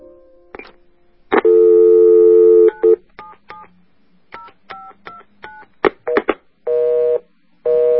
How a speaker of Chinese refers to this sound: 第一遍没人接，怀着忐忑的心情我又打了第二遍，等待的忙音太折磨人，我正准备挂了的时候电话通了。